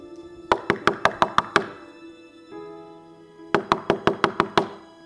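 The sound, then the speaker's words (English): Two bursts of sharp knocking on a wooden door late at night, each a quick run of about six or seven raps, separated by a short pause with a low hum in the background. “It's me. Open the door.”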